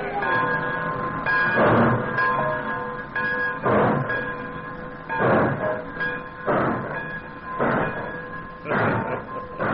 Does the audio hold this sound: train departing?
yes